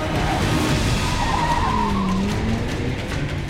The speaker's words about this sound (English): Gaskins floored it, weaving through the traffic on the highway as fast as his junker car could move.